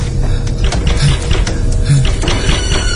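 Repeated sharp knocks rap on the front door of a living room in a quick, uneven series, each hit a short hard tap over a low steady rumble, with no voices.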